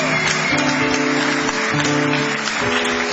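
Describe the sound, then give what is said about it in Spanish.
A steady wash of audience applause for Ale Dolina, dense and continuous, with a sustained musical tone humming underneath throughout. “Y nos ponemos serios para aplaudir al licenciado pentacadémico Ale Dolina.”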